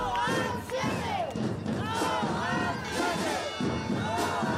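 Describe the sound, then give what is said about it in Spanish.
A crowd of parents protesting in the street against the closure of the Érase una vez infant school shouts and chants together, many voices overlapping in a loud, continuous roar with rhythmic rises and falls, punctuated by occasional thumps. “Ya se han manifestado en las calles.”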